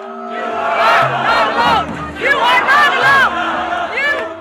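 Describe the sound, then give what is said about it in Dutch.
A large Extinction Rebellion climate protest crowd in the Netherlands cheers and chants on a Saturday in late January. They are demonstrating against fossil fuel subsidies, and hundreds of people along the side are encouraging them. Many voices blend into a loud, steady roar, with rising and falling shouts and whoops cresting in waves throughout. “En langs de kant staan nog eens honderden mensen ze aan te moedigen.”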